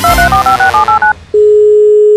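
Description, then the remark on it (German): A rapid series of about eight short, loud touch-tone beeps as a phone number is dialed, followed after a brief pause by a steady, continuous electronic tone on the line. “Ja, guten Tag, jetzt bin ich schon mal durchgekommen.”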